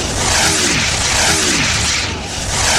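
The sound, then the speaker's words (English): A loud, steady roar of jet fighters firing heavy rocket fire fills the whole stretch, with two quick descending whooshes cutting through it as the rockets streak past, narrowly missing a cow. No voices. “The jet fighters fire, narrowly missing the cow with the heavy rocket fire.”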